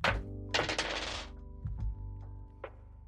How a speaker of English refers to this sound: So we're going to roll the dice that we've accumulated to see who actually gets to pick what our tilt is for this session. So I'm going to roll some dice.